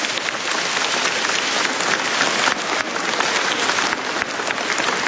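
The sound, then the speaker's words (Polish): A large audience at a church sanctuary applauds steadily for the parish priests, a dense wash of many hands clapping at once, sustained and fairly loud from start to finish with no speech over it. “Brawa dla księdza Kustosza i wszystkich księży posługujących w tej parafii.”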